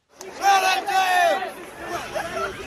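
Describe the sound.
A crowd of students shouting and jeering as they disperse after an encounter at the Lincoln Memorial, several raised voices overlapping in loud, drawn-out yells with a noisy babble underneath, continuing steadily for a few seconds.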